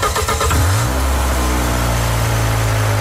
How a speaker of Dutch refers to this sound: En start de motor.